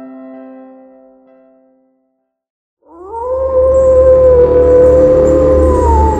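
A dog lets out one long, loud, sustained howl that rises at the start and holds steady, beginning after a fading tone and a moment of silence, over a low rumbling background.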